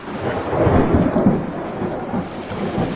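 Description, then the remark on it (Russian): A strong night thunderstorm over the sea at a lighthouse, with a deep, rolling rumble of thunder swelling and fading beneath a steady, dense hiss of heavy rain. No voices are heard. “родился на маяке в ночь, когда на море была сильная гроза.”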